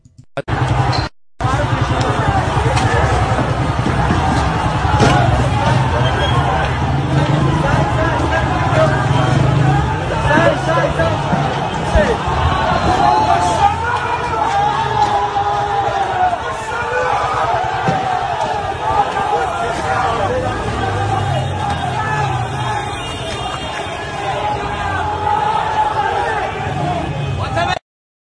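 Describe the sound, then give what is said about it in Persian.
A loud, unbroken crowd commotion from a street clash between a crowd and security forces in the streets of Rasht, with many overlapping voices shouting and murmuring, occasional sharp knocks and a traffic-like rumble underneath, holding steady for nearly half a minute. “ببینیم این ویدیو رو که آخرین ویدیویی که براتون میذارم برای امروز مربوط میشه به جنگ و گریزی که تو خیابونهای رشت بود.”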